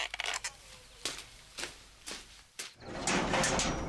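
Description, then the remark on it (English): A door is opened to see who is there: a few sharp clicks and rattles from the latch and handle, then a steady rush of outside noise as it swings open. “would you mind seeing who's at the door?”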